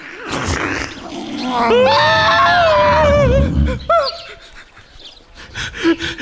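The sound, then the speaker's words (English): A creature lets out a long, wavering growl, a rough low rumble under a strained, rising and falling cry, followed by a couple of shorter harsh bursts before it trails off. “Yeah, he growled.”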